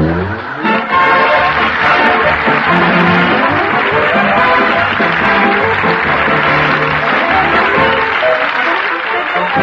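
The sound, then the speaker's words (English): Sustained applause from a large theater audience after the Gulf Screen Guild Theater's production of If You Could Only Cook, a dense steady roar of clapping hands at full volume for the whole stretch, with no voices rising above it. “From the applause, there's no doubt that the audience here in the theater loved it every bit as much as we enjoyed bringing it to you.”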